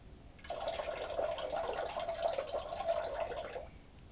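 A steady stream of urine splashes into toilet water for about three seconds, fairly loud, starting and stopping abruptly with no talking.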